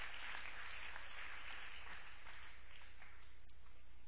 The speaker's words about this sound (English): Let's give a clap offering to Jesus. Amen.